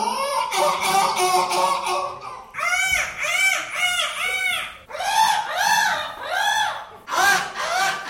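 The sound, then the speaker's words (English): People compete at the Seagull Championships in Western by mimicking seagull calls with loud, high, wailing squawks, each rising and falling in pitch and repeated in quick runs across several bursts, with no talking between them. “It's not very often we get an event as prestigious as the Seagull Championships in Western.”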